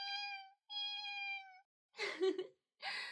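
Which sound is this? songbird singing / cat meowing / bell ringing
cat meowing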